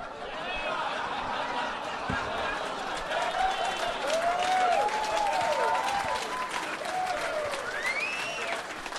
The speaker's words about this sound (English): I've never heard that many people applaud cancer before.